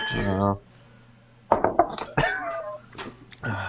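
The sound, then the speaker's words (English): Beer drinks clink together in a birthday toast, a quick cluster of sharp taps with a brief ringing tone, with people talking just before and after. “To clink. Cheers.”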